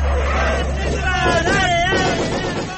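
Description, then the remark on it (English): A truck rumbles past on a busy town street, its low engine drone strongest early on, with crowd chatter and a few raised voices filling the background. “That was our truck, wasn't it?”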